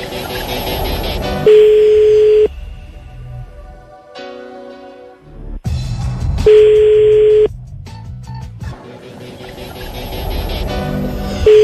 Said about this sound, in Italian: Vediamo dopo quanto tempo risponde, perché una persona gentile dovrebbe rispondere dopo due squilli, perché se tu non rispondi subito non sei gentilissimo, eh?